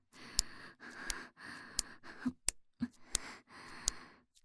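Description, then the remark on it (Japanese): Rapid, heavy breathing of a person during sex, a run of about six or seven breathy in-and-out pushes in quick succession, fairly soft overall with a few sharp clicks between breaths and no talking. “ご主人様の息遣いも適度に激しくなってきました。”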